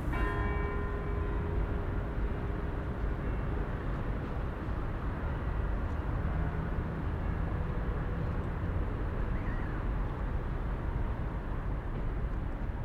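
church bells ringing

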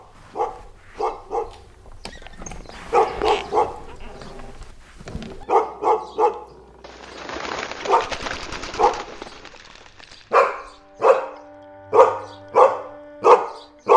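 dog barking

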